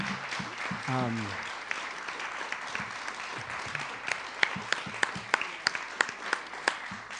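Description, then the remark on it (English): An audience breaks into steady applause, a dense wash of clapping with a few sharper individual claps standing out near the end, while a voice briefly speaks at the start. “Round of applause.”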